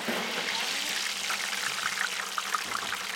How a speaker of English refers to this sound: These fries, now cooking in bubbling hot oil in Lamb Weston's kitchen, have been dipped in a special starchy batter. Its exact ingredients are a trade secret, but it's got potato starch and rice flour to keep fries crisp.